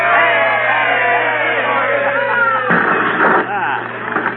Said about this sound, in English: Now, let's have a cheer, folks. Here we go. Hey!